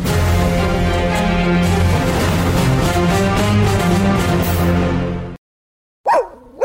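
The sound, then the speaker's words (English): A steady stretch of music cuts to silence, then a single short dog yip rings out near the end, fairly loud, its pitch swooping up and down. “You hear that? Your dog knows spring is coming sooner than you think.”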